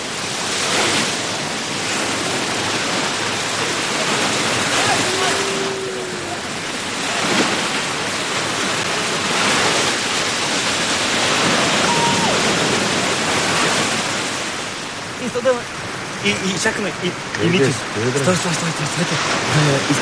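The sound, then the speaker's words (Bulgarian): Steady roar of sea surf washing onto the shore, with repeated swells of breaking waves rising and falling; near the end people begin talking over the surf. “Морето, виж, морето е срещу тебе.”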